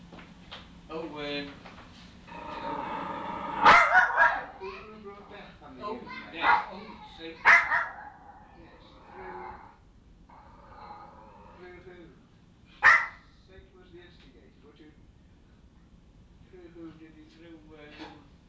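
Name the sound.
dog barking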